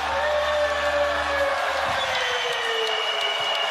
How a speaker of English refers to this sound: Vince Carter's last game. Even the Knicks are applauding.